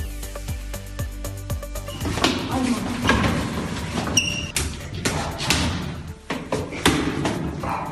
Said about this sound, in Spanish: Lo que escucha son golpes secos, patadas y puñetazos que una chica de 13 años está recibiendo de otra niña, mientras todo se graba una vez más con el teléfono móvil.